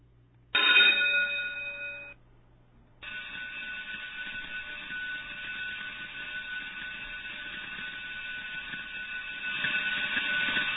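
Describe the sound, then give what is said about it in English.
An electric bell rings shrilly in a short burst to mark the end of class, stops briefly, then rings continuously for about eight seconds, loud and steady with a metallic, buzzing clatter and no voices. “Well, I think we're getting our bells mixed up there, but that's the end of class, boys and girls.”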